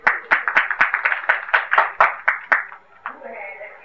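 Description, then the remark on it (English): Loud audience applause during a talk on Sanatan Dharma, after a question on the meaning of Sanatan is answered, with sharp, steady claps about four per second over a crowd's murmur. After a few seconds the clapping stops and a voice begins. “Here, loud applause.”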